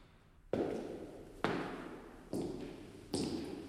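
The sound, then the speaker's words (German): Four heavy footsteps climbing stairs land in a steady, slightly quickening rhythm, each a firm thud with a short ringing tail, distinct against a quiet background, in a cultural production centre in the centre of Bern. “Gleich hörst du meine Schritte. Folge ihrem Rhythmus. Die Treppe hoch.”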